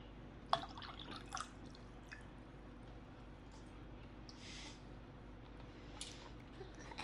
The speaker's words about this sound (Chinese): 我渴了，给主人倒杯水。要温的，不要太烫，也不要太冷